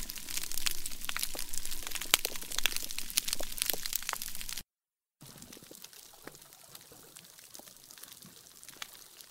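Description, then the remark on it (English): Dense crackling of countless sharp clicks and pops from reef fish calling to each other, recorded by researchers on a reef; a busy sizzling texture that breaks off briefly and returns sparser and quieter, with no voices. “So those are the sounds of all the little clicks and whistles and pops that fish make to each other.”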